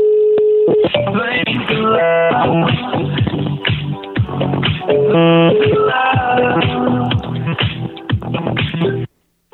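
A phone call being placed by the radio station Radio 90 to a listener, with a run of dialing tones and ringing heard through a narrow, tinny telephone line, loud, ending abruptly.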